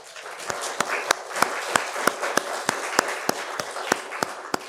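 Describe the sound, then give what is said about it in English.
An audience at a Sunday gathering the day before Veterans Day applauds the veterans who have stood up, with a steady wash of clapping underneath sharp, evenly spaced claps that keep a quick, regular beat throughout. No one speaks. “Okay, give them a round of applause.”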